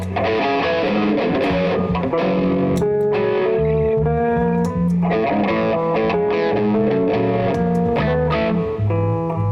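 Electric guitar with a light overdrive crunch plays a steady, chord-heavy riff, loud, sustained notes ringing over a full, continuous tone with no voices.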